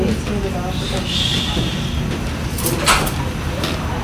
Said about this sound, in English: For those of you who are here for the next panel, could you wait outside? Otherwise, we'll just close the door so we can finish.